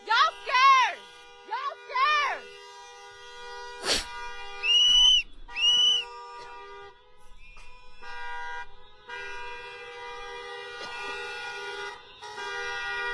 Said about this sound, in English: Now, you guys listen to all those cars honking? I want you to wrap your head around this. From the videos that I've seen and the videos that I've watched, all of those cars that are honking are pissed off at ICE.